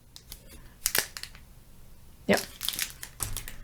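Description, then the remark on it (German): Paper crinkles and rustles as a washi (traditional Japanese paper) envelope with a small kitten printed on it is handled, in two bursts of crisp, papery crackling separated by a quiet pause. “Das sind so kleine, also es ist so Washi, also so ihr traditionelles japanisches Papier. Das ist, glaube ich, ein Fütter, also ein Kuvert, ein Umschlag.”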